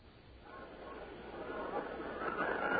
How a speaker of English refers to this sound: It's pretty windy out there. This is like our dedicated line to the outdoors.